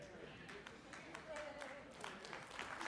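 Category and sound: crowd, audience clapping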